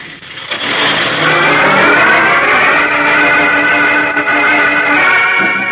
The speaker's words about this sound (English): young Chuck Riggs watches the truck carrying his uncle and the other hooded terrorists roar out of the dark driveway